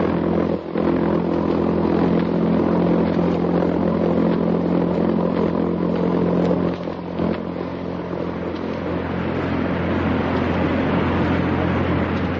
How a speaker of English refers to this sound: In Europe, that sound means death and destruction. It's the sound made by the jet-propelled buzz bomb, Hitler's weapon of vengeance. Let's listen to it ourselves for a few seconds.